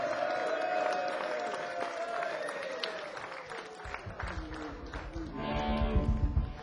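An audience at a circus breaks into applause for the ringmaster partway through, a dense crackle of many hands clapping that swells toward the end, following a sustained gliding tone at the start.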